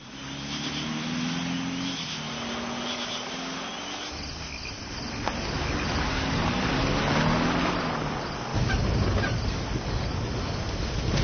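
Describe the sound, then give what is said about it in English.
A car engine drones and shifts pitch as the vehicle drives off the road onto rough ground, its tires rumbling and crunching loudly over a steady background of chirping insects. “You've driven off the road.”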